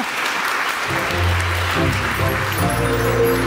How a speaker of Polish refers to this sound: Tango, Michał Witkowski. Wielkie brawa.